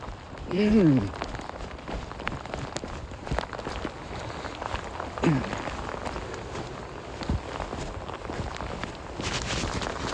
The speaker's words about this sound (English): I'm being rained on by hailstones and I'm going back to the car.